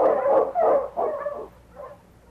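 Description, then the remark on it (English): King, the lead sled dog in Challenge of the Yukon, barks three times in quick succession, loud, followed by a softer, shorter yelp as the barking trails off. No one speaks. “You mean to say, Sergeant, that you let the dog decide to go the long way around?”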